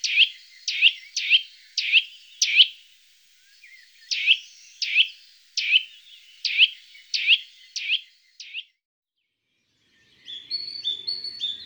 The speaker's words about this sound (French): La citelle lance en toute saison des séries de tuit tuit énergiques qu'on entend de loin.